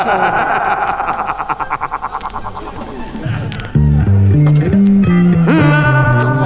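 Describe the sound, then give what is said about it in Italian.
A voice run through a heavy echo effect, warbling and pulsing at first, then turning into loud, stepped, synthetic-sounding tones with no clear words. “Aspetta, mi dai l'eco per piacere?”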